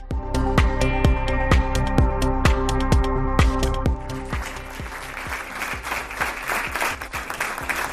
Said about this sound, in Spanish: Y este ha sido el emotivo aplauso con el que el Ayuntamiento de Gijón ha homenajeado a Inés Sánchez, la voluntaria de Protección Civil que falleció el pasado 4 de enero en un accidente de tráfico en la provincia vecina de León.